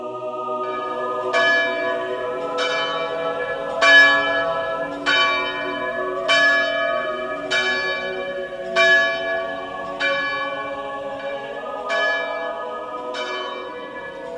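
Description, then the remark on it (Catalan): Church bells peal steadily from the bell tower of the church of Sant Lluís in Els Guiamets, built in 1791, about a dozen resonant strikes in a regular rhythm, each ringing out and overlapping the next in a rich, sustained wash of tones. No voices are heard. “És el campanar de l'església dels Guiamets.”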